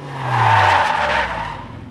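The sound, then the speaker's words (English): Car tires skid and squeal loudly for a couple of seconds, a sustained screech with engine rumble underneath, fading slightly as the car comes to a stop because of a dog. “Stop the car and get out.”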